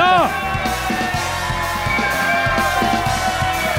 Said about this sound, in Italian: Questo, ragazzi, è un applauso sincero. Applauso radiofonico, ancora di più, ragazzi.